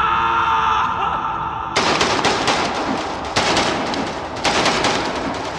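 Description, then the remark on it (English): Sustained automatic rifle fire roars in rapid, continuous bursts, loud, as a man holds the trigger, with a reverberant echo filling a tunnel; a brief tonal hum precedes the onset of shooting. “He clenched the trigger and held, bullets exploding from his rifle, filling the tunnel with fire and thunder.”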